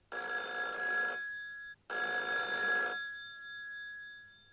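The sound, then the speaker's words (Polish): A telephone rings twice, each burst a bright, buzzy electronic trill about a second long with a short pause between, the tone lingering faintly after the second ring. No one speaks. “Stefan dzwoni do Zosi.”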